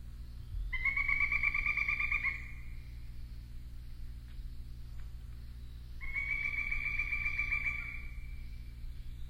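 Two loud bursts of a pileated woodpecker's call, each a rapid run of high, ringing notes lasting about two seconds, separated by a pause, over a low steady background hum.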